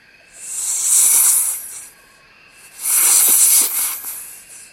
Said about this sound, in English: I can see a snake, says Robin.